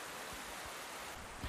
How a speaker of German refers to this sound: Du hörst jetzt einen Bach, genauer gesagt die Appelbach. Das ist ein kleines Flüsschen, kleiner Bach bei mir um die Ecke.